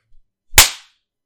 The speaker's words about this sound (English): Oh, baby, I can see my handprint on your cheek. You love getting slapped around by me, don't you?